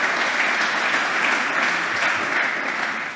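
A crowd claps steadily and loudly, a dense, sustained wash of applause with no break, holding even throughout before easing slightly at the very end.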